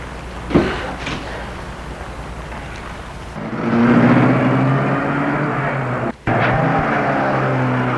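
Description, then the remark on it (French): A taxi's engine turns over and catches as the driver starts it after a few quiet seconds, then settles into a steady rumbling idle with a low droning hum. No one speaks. “Il a mis la voiture en marche.”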